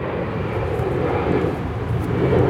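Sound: airplane flying overhead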